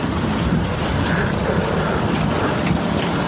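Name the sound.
strong wind blowing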